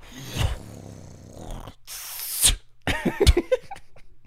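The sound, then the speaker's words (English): Someone spits into their hand while sloshing liquid in their mouth: a sharp, breathy burst of air followed by a few short, wet sputtering noises and smacks, with no talking. “why are you spitting in your hand right now?”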